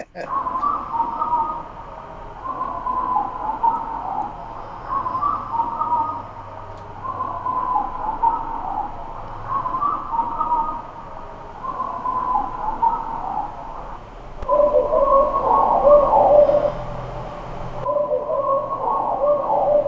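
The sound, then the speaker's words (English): A steady run of harsh, repeated crow-like caws from a handheld crow call, in loud bursts one after another for the whole stretch, with no talking. “And shall we do the Crow Talker?”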